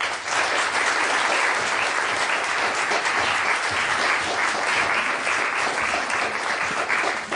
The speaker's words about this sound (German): Bitte begrüßen Sie sie mit einem großen Applaus, Antje Ravik-Strube.